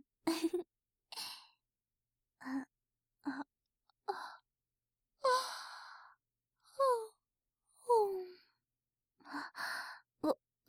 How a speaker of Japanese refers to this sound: ごめん。なんだか安心したら眠たくなってあくびが出ちゃった。